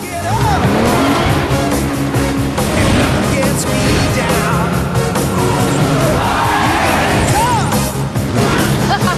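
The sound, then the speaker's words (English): The car Herbie races around an arena, its engine roaring and revving in rising sweeps with tire squeals as it goes onto two wheels to avoid oncoming vehicles, while a loud crowd cheers and yells continuously underneath. “Herbie goes onto two wheels to avoid oncoming vehicles.”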